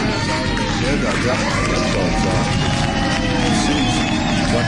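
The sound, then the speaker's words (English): A loud crowd roars continuously, a dense wash of cheering and shouting voices that holds steady without a break. “And the crowd goes wild.”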